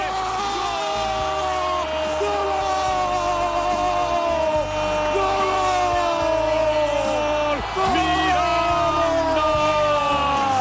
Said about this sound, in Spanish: Y el grito de Paulo Futre se escuchó en todo el Santiago Bernabéu.